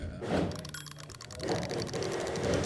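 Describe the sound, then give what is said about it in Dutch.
A mechanical kitchen timer being wound while held close to a microphone, giving a steady run of quick, crisp ratcheting clicks at a moderate level with no talking over it. “Maar pak jij de wekker, hou hem wat dichter bij de microfoon en dan gaan we starten.”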